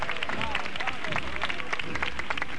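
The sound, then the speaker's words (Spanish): A crowd from the whole neighbourhood of Barrio de la Vid applauds steadily and warmly, dense clapping running throughout at a fairly even level, with murmuring voices and a few rising calls mixed into the sound. “Toda la barriada y el barrio de la Vid, que le premia con ese caluroso aplauso.”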